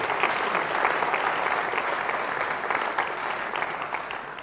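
A crowd applauds steadily, a dense wash of many hands clapping at an even, sustained level for several seconds with no voices rising above it.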